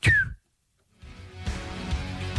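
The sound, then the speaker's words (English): A single short, high chirp that slides downward in pitch, apparently whistled by a person imitating the low-battery chirp of a smoke alarm in a house, followed by a pause and then a steady, noisy background. “It was a smoke alarm somewhere in the bloody house.”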